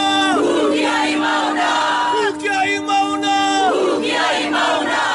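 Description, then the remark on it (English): A group of Hawaiian protesters chants together on a cold, foggy mountainside, their sacred mountain, while blocking telescope construction, in long, sustained tones, loud and steady, dipping briefly around the midpoint before the drawn-out chant swells again. “They chanted.”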